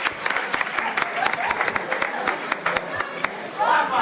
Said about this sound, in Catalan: Bravo, un aplaudiment.